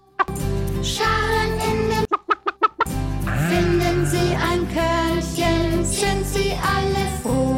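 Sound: chickens clucking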